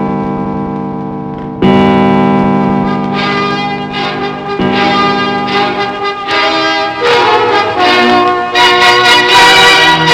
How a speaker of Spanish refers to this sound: Doce campanadas de un año que moría eran doce advertencias del monstruo que vendría.